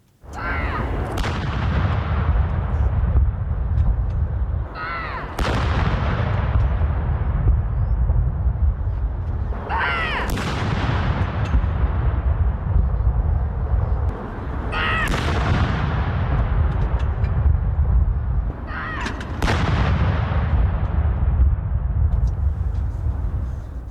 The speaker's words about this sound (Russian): в лондонском Грин-парке был устроен артиллерийский салют